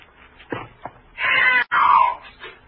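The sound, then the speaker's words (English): A thin, black, powerful, tawny cat yowls loudly in two drawn-out, wavering cries after a couple of short thumps, with a brief break between the cries. “Then one morning, down my chimney, came a thin, black, powerful, tawny cat, who seemed to think me the trespasser.”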